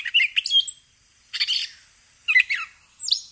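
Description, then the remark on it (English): Gray catbird calls: four bursts of jumbled, high chirps and squeaky notes, separated by short pauses, fairly loud with no talking. “So keep your ears open for the calls of the gray catbird.”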